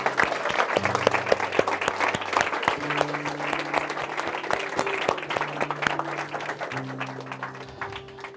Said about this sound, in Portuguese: Em nome de Jesus, em nome de Jesus. Você pode aplaudir o Senhor, querido, por essa vida.